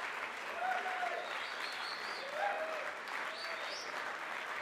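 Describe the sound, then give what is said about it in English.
A partially seated, partially standing concert crowd applauds steadily at the 930 Club, dense clapping with a few scattered cheers and whistles rising over it. “A partially seated, partially standing crowd at the 930 Club.”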